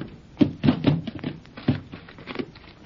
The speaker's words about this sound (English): Now, if I can just get out and close that door.